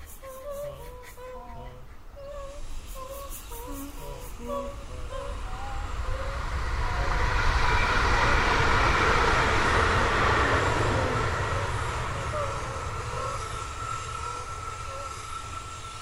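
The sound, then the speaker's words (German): An S-Bahn commuter train rushes past a park in Witten, Germany, its broad roar swelling to a peak midway and then fading away, while birds keep chirping in the background throughout. “Und da gibt es dann auch die Situation, dass plötzlich mal eine S-Bahn durch die Szenerie rauscht.”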